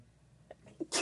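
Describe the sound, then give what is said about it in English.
A quick sneeze: a few short breathy catches building up, then a loud, sharp burst of noise at the end. “Bless you.”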